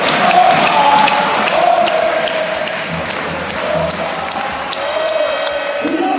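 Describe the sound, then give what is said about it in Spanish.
A large crowd of Thunder Palencia basketball fans cheers and chants 'A por la copa' together at the end of their team's 84-60 win over Almansa con Afanio, a dense, loud roar of many voices that holds steady for several seconds, with a few higher shouts rising above it. “A por la copa, era el grito, era el lema”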